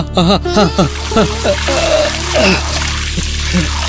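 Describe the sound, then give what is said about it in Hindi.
Water drawn from a well pours and splashes into a man's eyes in a steady wash for a few seconds while a voice groans and cries out in wavering, strained tones over it. “और पानी ला देना, सारा कुआं लेकर डाल दे मेरी आंखों में।”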